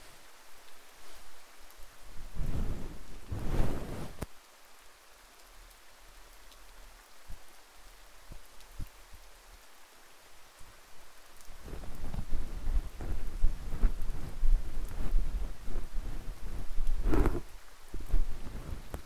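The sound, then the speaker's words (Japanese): Steady rain falls throughout, growing heavier about halfway through, with deep rolls of thunder rumbling near the start and again near the end. No one speaks. “どうかこの雨の中、時間の中に束縛され続けたい。”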